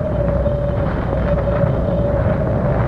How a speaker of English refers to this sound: It's still raining some, though the clouds are breaking. Listen to the wind and the corn. Isn't it eerie?